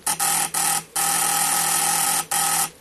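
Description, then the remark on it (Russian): A sharp, buzzing electric doorbell at the front door rings in loud bursts: a few quick short rings, then one long sustained ring, then another short one, with no voices. “Он только что собрался зажечь спиртовку и приготовить себе чай, как услышал резкий звонок у входной двери.”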